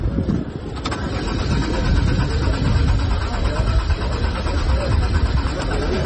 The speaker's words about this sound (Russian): Тот же Герман Греф дважды безуспешно пытался завести презентованный на форуме автомобиль «Лада Аура» и потом разочарованно вылез из машины.